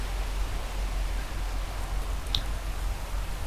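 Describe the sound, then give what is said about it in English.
Sea waves make a steady, full hiss of rushing water that holds at an even loudness throughout, with no voices and only a brief faint high chirp partway through. “And that insistent sound of the waves coming and going.”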